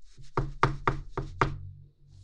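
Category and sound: household object, knocking on a door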